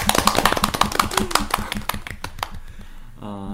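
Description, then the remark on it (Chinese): A quick, steady run of rhythmic hand claps during a live-streamed Singles' Day show, called for as a round of 36 claps, roughly twenty sharp slaps in a row, loud at first and thinning out, followed by a short tonal voice at the end. “我说完了， 后面重点的一句话， 36次掌声来，想起来， 2、3、4。”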